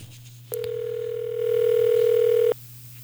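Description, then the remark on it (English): A single steady electronic ringback tone sounds for about two seconds over a faint low hum, as a radio station places a phone call to a listener and waits for the other end to pick up. “All right, if your phone's ringing, it could be big time for you.”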